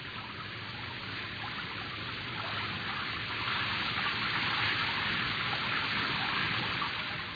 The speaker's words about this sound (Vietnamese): Tiếng mưa rơi đều đều trên mái tôn, hòa với âm thanh vi vu của từng cơn gió lướt qua vách ván, làm hai người lặng im nghe.